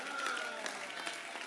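An audience claps their hands in a steady, dense wash of applause that holds an even level for the whole moment, with faint crowd voices mixed in.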